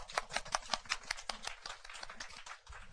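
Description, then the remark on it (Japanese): A short burst of steady welcoming applause from a church audience greeting a visitor from Kagoshima, with dense overlapping claps in a quick, even rhythm that gradually loosens and thins out toward the end. “今鹿児島の方であの教会のそばで勤務されてますけれども来られましたので歓迎の拍手をしたいと思います。”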